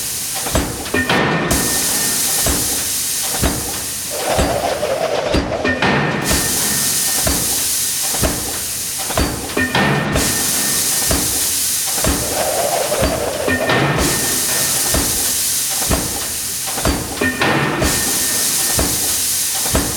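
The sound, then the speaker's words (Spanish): Engines and propellers run steadily, a loud, dense mechanical roar with a rhythmic chugging pulse and bursts of hissing, continuous throughout with no voices. “Yo les he dicho, callad un momento, vais a escuchar ahora mismo la música mecánica de motores y hélices, y la he hecho llegar desde la remota distancia para ellos.”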